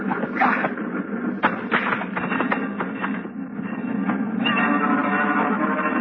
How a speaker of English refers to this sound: The train rolls by slowly, and the crossing bell warns that death is here.